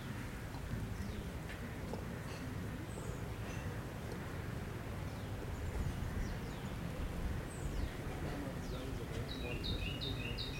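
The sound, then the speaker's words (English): A bird chirps in short, scattered calls, ending in a quick run of repeated notes, over a steady low rumble of ocean surf. No one speaks. “You hear that bird in the ocean.”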